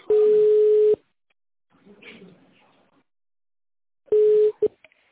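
A steady telephone ringback tone, heard while a call to a company connects, sounds once for about a second, then after a long pause of faint line noise it begins again before cutting off abruptly.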